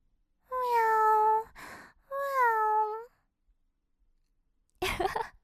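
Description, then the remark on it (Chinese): Two drawn-out, tonal meows from a clean cat with no collar sound clear, a breathy puff between them, followed by a brief pause and a short rustling burst at the end. “但是看你这么干净，也不像是流浪猫啊。”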